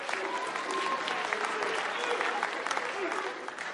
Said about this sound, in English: Oh, you clap for yourselves.